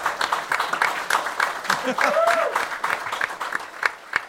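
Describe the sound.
Dense, steady applause from a crowd fills the whole stretch, with a few scattered cheers and voices rising through the clapping at moderate loudness.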